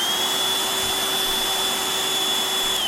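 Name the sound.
robot vacuum cleaner running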